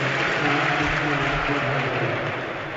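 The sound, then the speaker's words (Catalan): A crowd at a basketball game applauds steadily as the young Lithuanian player Jokubaitis leaves the court, a dense wash of clapping that holds for the whole stretch before easing off slightly at the end, with a low hum underneath. “Se'n va Jokubaitis entre els aplaudiments del públic.”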